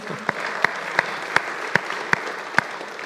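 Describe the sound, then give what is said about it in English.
The Hope church audience applauds on a Sunday morning, the first Sunday in two years with the whole church back together, in a dense, steady wash of clapping. A handful of sharper, louder individual claps punch through at roughly regular intervals, and no one speaks. “We can clap about that.”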